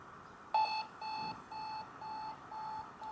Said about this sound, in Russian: Вот так вот работает зумер. Сначала тихо, потом нарастающе будет чуточку погромче. Такая вот особенность будильника.